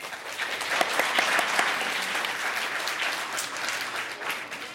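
Steady applause from an audience, a dense patter of many hands clapping at even loudness for several seconds with no voices over it.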